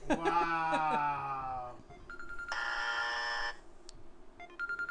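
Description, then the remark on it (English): An electronic timer alarm goes off at the end of a 3-minute timing: a sustained, harmonic-rich tone, then a harsh, loud buzzing burst lasting about a second, a short beep, and quick pulsing beeps at the end. “There it is. That means we're done. That was 3 minutes.”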